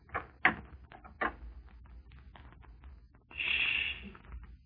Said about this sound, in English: You knocked, friend.